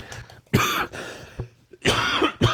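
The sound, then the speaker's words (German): A person coughs several times, harsh, loud bursts arriving in an uneven sequence with short pauses between them and a bit of throat clearing mixed in. “Ich glaube, der Husten kommt von der Kälte, vom Laufen.”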